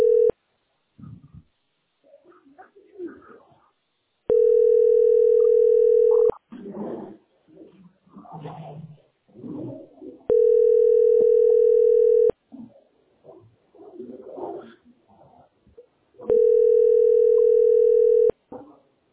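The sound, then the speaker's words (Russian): A telephone ringback tone repeats three times, each long steady beep lasting about two seconds with several seconds of gaps between, where people talk indistinctly; nobody picks up. “Че не берут-то вообще?”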